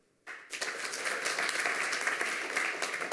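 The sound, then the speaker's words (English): An audience practicing clapping as the signal to give a speaker more time breaks into applause after a brief quiet moment, many hands clapping in a dense, steady wash that stays loud throughout. “And then you as an audience, if you want to give them more time, signal something by doing something like clapping.”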